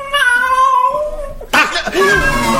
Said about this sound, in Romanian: Ți-a scăpat pisica. Pune mâna pe ea, pune mâna pe ea. Na. A fugit.